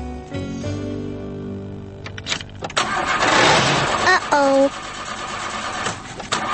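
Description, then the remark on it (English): A car engine cranks repeatedly in a rough, grinding burst, sputtering without catching in cold, snowy weather, while a voice briefly speaks over it. “The car doesn't like the cold weather. It's having a bad day, too.”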